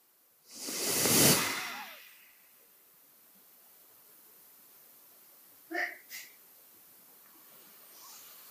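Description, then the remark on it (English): A single long, breathy exhale as a person breathes out with both fists on the knees opening, swelling and then fading over about a second and a half, followed by quiet and a couple of soft, brief sounds. “Now both fists on the knees opening as we breathe out.”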